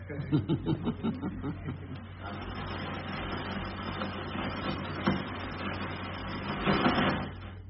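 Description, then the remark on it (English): A voice speaks briefly during a church service, then a long, low rolling rumble of thunder takes over, holding steady for several seconds before swelling louder near the end. “If that's the sound of thunder, then we are okay.”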